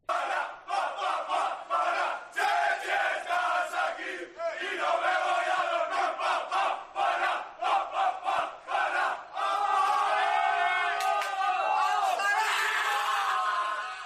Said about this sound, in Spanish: Este era el grito de guerra antes de empezar de la selección, como decimos, capitaneada por Rudy y acordándose de otro balear de Sergi Llull.